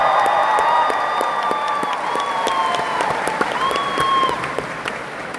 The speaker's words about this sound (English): I just wanted more applause.